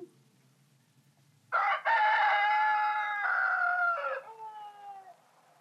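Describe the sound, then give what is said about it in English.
A single loud rooster crow rings out, a long drawn-out cock-a-doodle-doo lasting about three seconds and trailing off at the end, with no talking. “Sounds two and three were roosters.”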